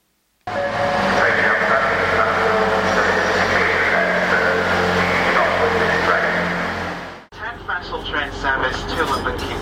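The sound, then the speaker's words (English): Loud, steady rumble of a train interior running on rails, with a constant low drone, then a sudden drop to quieter rolling noise as an announcement says the train will call at Brough, Howden, Selby, Doncaster, Westford, Grantham and London King's Cross. “This train will call at Brough, Howden, Selby, Doncaster, Westford, Grantham, Allen the King's Cross at 19:45.”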